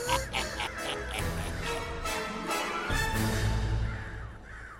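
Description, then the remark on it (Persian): A flock of black crows caws loudly and continuously, harsh overlapping calls repeating throughout, with no one talking. “از الان به بعد دولت کلاغای سیاه اینجا حاکم و فقط کلاغا اینجا حق زندگی دارن، بقیه باید زندانی بشن.”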